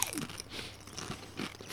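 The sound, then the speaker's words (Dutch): Crisp crunching of spicy kimchi-flavoured potato chips being bitten and chewed, a few sharp crackly bursts in quick succession with no talking. “Ze kraken goed. De textuur van de chip is lekker.”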